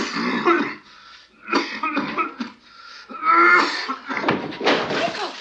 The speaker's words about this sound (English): Aidan Quinn is coughing away, acting like he has PCP pneumonia